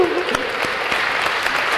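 A class of students claps steadily after a sorting algorithm demonstration finishes, a dense, even patter of many hands with a few sharper individual claps standing out, sustained at a constant loud level.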